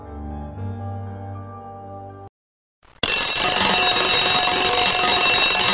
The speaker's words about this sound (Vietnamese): Tám giờ 45, tiếng chuông báo reo vang cả nhà tù.